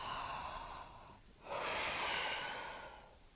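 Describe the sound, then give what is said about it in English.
Two slow, deep breaths, an airy hiss that dips to a pause near the middle before the second, louder breath swells and gradually fades. No talking. “Keep breathing in and out. Nice big deep breaths.”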